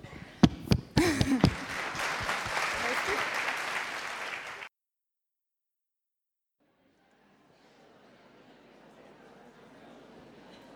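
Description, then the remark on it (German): An audience applauds a pianist, a religious sister who played Christmas music, with loud, dense clapping, a voice briefly audible at the start. The clapping cuts off abruptly, and after a short silence fainter applause resumes. “Und dabei Applaus für Schwester Annette am Klavier.”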